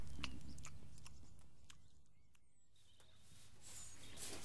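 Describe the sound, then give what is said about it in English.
Young farm animals being fed tomatoes chew and crunch on them, with irregular wet bites and snaps over a low rumbling background. The sounds are fairly quiet, and no one speaks. “Let's give them some tomatoes. They're eating them.”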